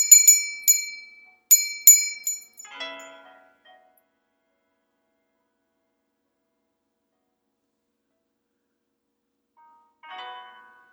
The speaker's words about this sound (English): Rising with the angels, speaking to the Lord in some silent, private time, as we do the sound of the bell.